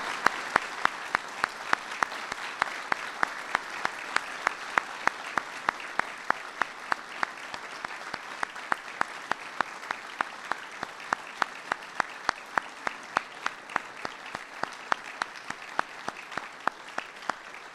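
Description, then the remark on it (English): Sustained audience applause for the family of an Army specialist at a ceremony honoring him, a dense wash of many hands clapping steadily and fairly loud for nearly eighteen seconds, with no talking over it. “Please give another round of applause”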